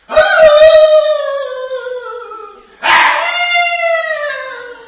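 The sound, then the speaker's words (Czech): A human voice imitates the howling yells shepherds at a sheep pen gave into the darkness all night while keeping a fire: two long, loud, drawn-out wails, each starting high and slowly sliding down in pitch, the second beginning abruptly after the first fades, with no talking. “Ale co se nám bylo zajímavé, tak celou noc udržovali oheň a celou noc řvali do tmy.”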